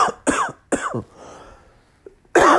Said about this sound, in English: Excuse me. If you haven't noticed, I have a bit of a cough.